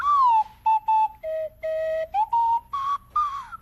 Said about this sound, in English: Now, here is a whistle. Try that one. Oh, it's a slide whistle.